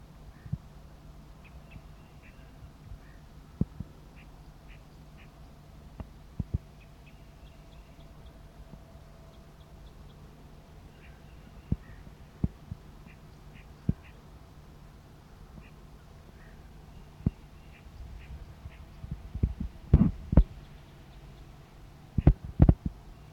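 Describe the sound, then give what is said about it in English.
Faint, short, high-pitched flight calls from a decoy bird, answering a wild male bird perched in a tree, repeat in scattered bursts over a steady low hum, broken by occasional sharp clicks and a cluster of louder knocks near the end. “Decoy responds with a flight call.”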